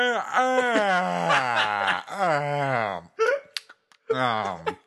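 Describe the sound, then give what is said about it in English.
A voice mimics the loud, exaggerated yawns of an unimpressed moviegoer in a movie theater: long drawn-out vocal groans with sliding pitch, repeated back to back, then a short breathy gasp and another stretched yawning moan, prominent. “And did two of the loudest yawns.”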